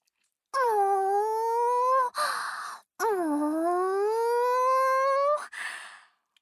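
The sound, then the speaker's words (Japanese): A gravure idol's voice imitates a cow mooing with two long, drawn-out moos, each sliding low then slowly rising, followed by short breathy exhales, with no talking. “特技は牛さんの鳴き真似です。”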